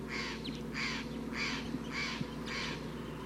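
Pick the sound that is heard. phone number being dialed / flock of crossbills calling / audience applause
flock of crossbills calling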